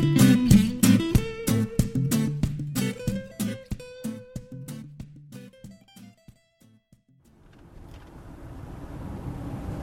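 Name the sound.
car interior noise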